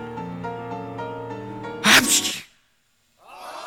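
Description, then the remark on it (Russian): A single loud, explosive sneeze bursts out after a sustained tonal buildup, followed by a moment of silence before a softer voiced sound begins. “чихнул, как видите.”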